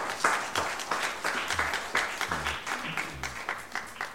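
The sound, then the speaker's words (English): A crowd claps together in steady applause as a hand clap of praise to God, dense overlapping hand claps filling the whole stretch, with faint low tones murmuring underneath. “Give your God a hand clap of praise.”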